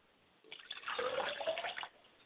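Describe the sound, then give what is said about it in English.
Liquid poured out as a libation for a father's spirit splashes in a steady stream for about a second and a half, moderately loud, then stops abruptly. No one speaks. “I pour libation for my father's spirit, that his spirit will reign and that his spirit will come back and reconnect the family.”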